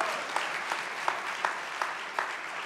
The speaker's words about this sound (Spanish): Y un aplauso al Señor por eso, vamos.